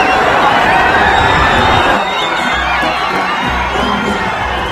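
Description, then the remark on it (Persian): A large crowd shouts and cheers continuously as the Leader's car reaches each section of the crowd, a dense roar of many voices that stays loud throughout, with overlapping yells rising above the din. “اون صدای فریادی که میشنوید لحظه یه که ماشین رهبر به هر بخشی از جمعیت میرسه.”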